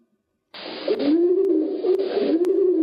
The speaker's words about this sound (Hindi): कबूतर।